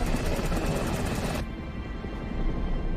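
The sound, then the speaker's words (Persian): A loud helicopter drones steadily, its rotor chopping in rapid even pulses; about halfway through the bright hiss drops away and the roar turns duller and muffled. No one speaks. “اینم از هلیکوپتر مایک.”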